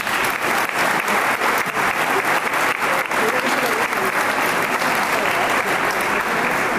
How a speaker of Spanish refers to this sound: Para todos ellos pido por favor un fuerte aplauso.